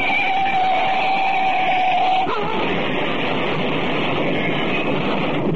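A truck slams into an old 1913 Model T car: a loud, steady engine roar with a sustained horn-like tone gives way to a single sharp crash midway, then a rough, noisy rumble carries on.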